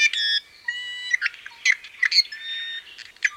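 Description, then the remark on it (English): Calls of an i'iwi, a Hawaiian honeycreeper: a harsh, creaky squawk followed by thin whistled notes and scratchy chirps, fairly loud, with no voices. “Sam's work tries to bridge traditional Hawaiian knowledge with conservation to ensure birds like the i'iwi stay with us.”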